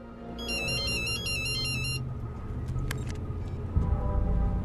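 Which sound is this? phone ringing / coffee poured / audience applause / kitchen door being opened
phone ringing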